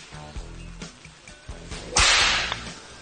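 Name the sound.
whip cracking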